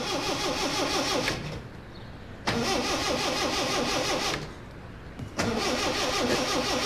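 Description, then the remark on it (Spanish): A car engine cranks loudly with a rapid, rhythmic churning, stops, then cranks again twice more without catching, each attempt lasting a second or two. “¿Por qué no arranca este coche de una vez?”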